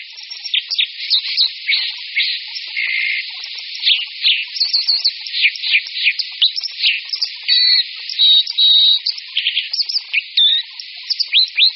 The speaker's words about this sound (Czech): Skorec vodní.